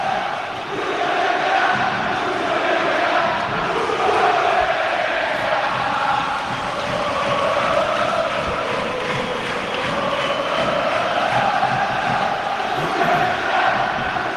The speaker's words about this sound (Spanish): Así, tal cual, lo han escuchado. Esa es la afición del Sevilla en cuanto el árbitro Hernández ha pitado el final.